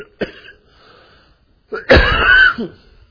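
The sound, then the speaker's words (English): A man coughs, a short hack followed by a heavier, rasping cough with a wheezy, strained edge, then quiet. No one speaks. “Excuse me, I don't want to cough a lung up here.”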